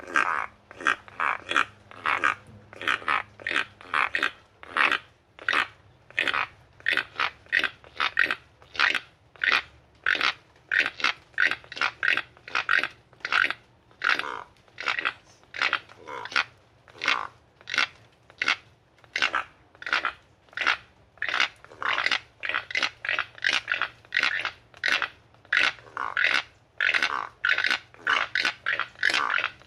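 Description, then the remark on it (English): Four keel-billed toucans, the national bird of Belize, give deep, croaking calls in Belize in a steady, rapid series, roughly two per second, loud, continuing without pause for about thirty seconds with no talking. “So that was the sound of the keel-billed toucan”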